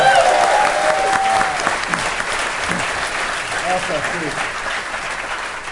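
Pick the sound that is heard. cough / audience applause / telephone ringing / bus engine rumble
audience applause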